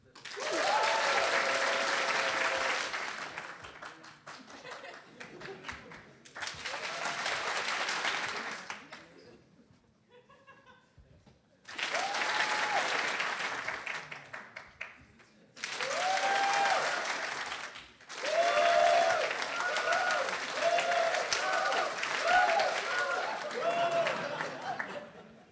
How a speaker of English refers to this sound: Okay, I'm going to try something out, if it's worked out. So when I raise my hand, everyone claps, okay?